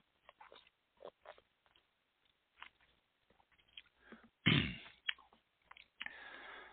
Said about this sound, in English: Excuse me, let me take a sip here.